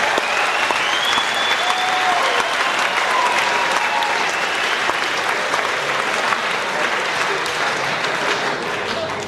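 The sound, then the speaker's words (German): Sustained audience applause, a dense, steady wash of many hands clapping at an even loudness for the whole stretch, with a few faint whistles rising above it and no speech. “Hast der Applaus auch eingefangen?”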